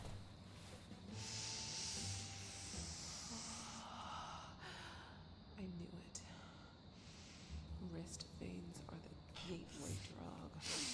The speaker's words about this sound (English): Okay. Scientific sniffing commencing.